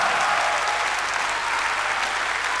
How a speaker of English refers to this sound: Well, you don't clap very loud. You don't clap at all loud. Let's hear you good and loud. Much louder than that.